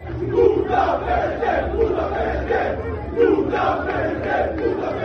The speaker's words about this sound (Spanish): está el Paris Saint-Germain de Luis Enrique, que está alojado en el Hotel Vela, en Barcelona. Ahora estaremos ahí en directo con Víctor Navarro, pero esta tarde se escuchaban estos cánticos en la llegada del equipo al hotel.